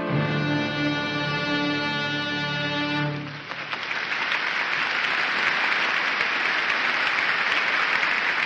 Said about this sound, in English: even at this late date, the audience responding to what is clearly a call for applause. And this is not at the end of the piece. This is at the end of the first movement.